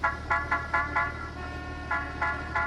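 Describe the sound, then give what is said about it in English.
Car horns honk in quick, repeated short blasts, a burst of four and then three more, over a steady low rumble of road traffic. “There weren't many expressways, and all these cars were getting in the way of his trucks.”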